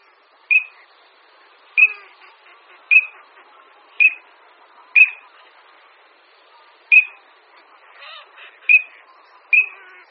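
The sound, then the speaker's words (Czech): A male common teal gives a series of about nine short, clear, high whistled 'krrik' calls, spaced roughly a second apart with a couple of brief pauses, and nothing else is heard. “Jasně znějící hlas, který bychom mohli přepsat asi jako krlik, krlik, nebo připodobnit k nějakému pískání, patří samci.”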